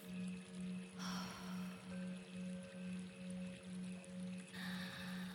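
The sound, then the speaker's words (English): Water flows and trickles steadily in a broad, hissing wash at a spa, with a low, rhythmic throbbing pulse repeating about twice a second beneath it. No one speaks. “We always have water flowing here to relax the senses.”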